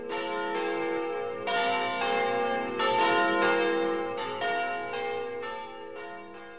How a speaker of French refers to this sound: dans la fine dentelle du clocher, toute une compagnie de cloches et de clochettes vint s'abattre. Un beau matin de Pâques, tintant et carillonnant à la grande volée.